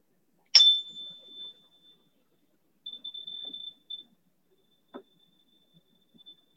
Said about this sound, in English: Next, we have our moment of silent meditation. So I will ring a chime and then you can close your eyes or not if you'd like to.